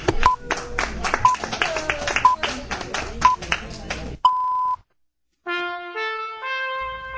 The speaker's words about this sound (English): Coming up next, the BBC Time Tones.